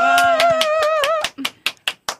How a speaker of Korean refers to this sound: 자, 그러면 저희는 박수로 두 분께 마이크를 넘겨보도록 하겠습니다.